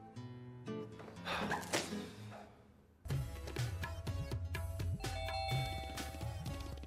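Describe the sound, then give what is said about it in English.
A doorbell rings with a two-tone ding-dong chime over busy background sound, then a louder stretch of jangling, harmonic tones follows with low thumps mixed in. “Hurry up, go on, open the door.”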